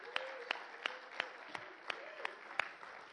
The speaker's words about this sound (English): Now, clap your hands for Jesus.